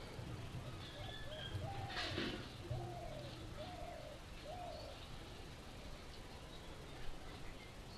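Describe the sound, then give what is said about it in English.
Doves coo in Braj in a short run of four soft, rounded notes, evenly spaced, over a steady outdoor hum of background noise. “I'm trying to figure out what the doves say here in Braj.”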